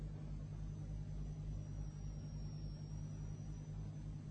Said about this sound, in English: I wasn't out of the room for more than 3 minutes when I heard his car drive off.